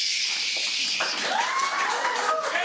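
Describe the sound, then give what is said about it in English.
A dense, sustained wash of clapping from a large crowd applauding a speech by Mr. Howard, steady and loud throughout, with a few rising and falling cheers or whistles threading through the noise. “Tumultuous applause.”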